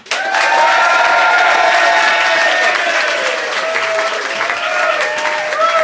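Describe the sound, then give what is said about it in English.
A Soho Theatre audience bursts into loud, sustained applause in support of Romesh and Ben, steady clapping with some cheering and whistles on top, holding strong for about six seconds. “If you think Romesh and Ben, and therefore Bill, is in the right, applaud now.”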